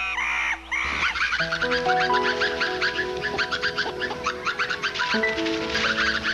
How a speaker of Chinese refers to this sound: 它听见一群猴子叽里咕噜